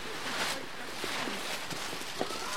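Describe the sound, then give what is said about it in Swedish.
Quick, scattered footsteps of children running back and forth among hanging thin bands of plastic material, heard faintly over a steady, noisy indoor background with occasional sharper taps. “Och här är det fullt med barn som springer fram och tillbaka.”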